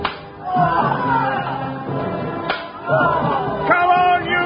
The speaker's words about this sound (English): And once again, the brawny galley slaves felt the stinging lash of the Greek whips across their backs, as relentlessly they heaved at their enormous oars.